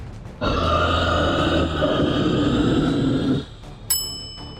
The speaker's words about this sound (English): The ringing of the hanging bell brought the story to a standstill.